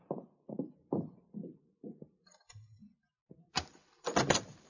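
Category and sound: household object, door being opened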